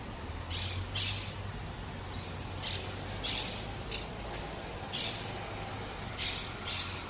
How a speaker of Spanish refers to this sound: Las primeras eran ejemplares de la inmensa colonia de cotorras argentinas que se ha afincado en la mediterránea ciudad de Barcelona.